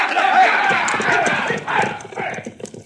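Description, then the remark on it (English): Several horses' hooves clip-clop busily on hard ground as riders get up on their horses, a dense, uneven clatter, with indistinct voices murmuring underneath. “All right, boys, get up on your horses.”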